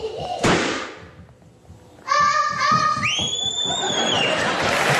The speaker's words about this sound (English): I love the sound of a child's laughter, followed immediately by a pop and a scream.